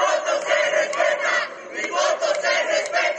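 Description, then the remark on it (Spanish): A crowd of citizens in Bolivia chants the slogan "Mi voto se respeta" together in loud, rhythmic bursts, many voices rising and falling in a steady repeating cadence with no single speaker standing out. “Al grito de "Mi voto se respeta", varios ciudadanos se congregaron en el lugar.”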